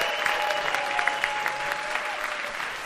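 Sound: audience applause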